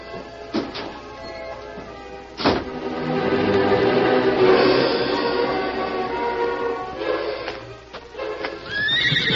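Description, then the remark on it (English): A horse at a corral lets out a long, loud, wavering whinny, framed by a few sharp hoof clops and thumps at the start and end, with no voices present. “I think he took his horse down to the corral.”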